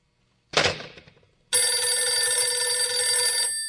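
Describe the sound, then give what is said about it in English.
A brief rattling clatter, then a loud telephone ringing steadily for about two seconds before stopping, with no voices. “Oh, what's the matter with this phone?”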